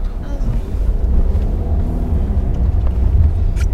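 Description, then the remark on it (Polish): Steady low engine rumble inside a slowly moving car, filling the whole stretch with a constant droning hum and light road noise, with faint muffled voices underneath. “Pomalutku pan jedzie tu. Jeszcze jedzie pan”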